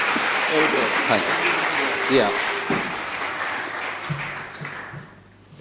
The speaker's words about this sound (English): So thank you so much. Let's give this guy a round of applause, shall we? Thank you.